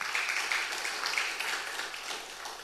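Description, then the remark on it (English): An audience at Last Adam Tabernacle applauds its worship team, many hands clapping in a dense, steady wash of sound that holds at an even level for the whole stretch, with no one speaking over it. “Yes, let's give our worship team another big hand clap.”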